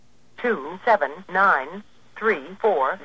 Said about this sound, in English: Okay. If we dial out on a phone exchange and we dial 958, we should get our phone number back. Let's see if it works here. May not work here.